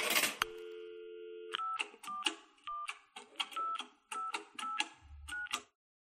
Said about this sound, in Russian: Я прошел пару кварталов до телефонной будки, опустил никель и приложил к уху трубку.